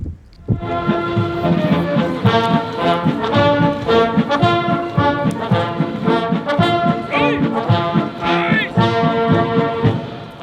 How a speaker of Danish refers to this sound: Ja, vi hører altså soldater bevæbnet med både bajonetter og tubaer, som øver sig foran kongresbygningen på Capitol Hill inden selve indsættelsesceremonien på mandag